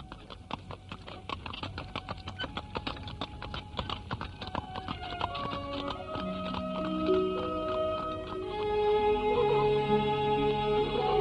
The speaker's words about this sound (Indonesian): Kereta kuda yang ditumpangi Arya Dwi Panggah dan Narirati berjalan menyusuri jalan desa yang amat indah pemandangannya.